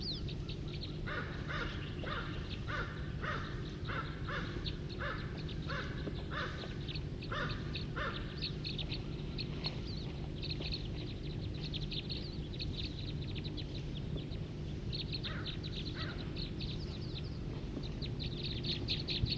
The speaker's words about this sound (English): There's about 5 or 10 birds here in a tree right here, calling.